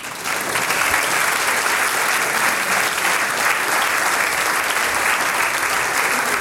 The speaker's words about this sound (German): Und der kommt jetzt aus, der Bürgermeister Fritz Fledel. Jetzt ist nicht mehr so ruhig, weil du kriegst einen gewaltigen Applaus. Komm raus.